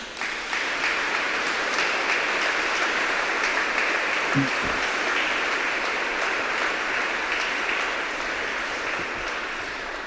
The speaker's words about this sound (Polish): A więc jeszcze raz ogromne brawa.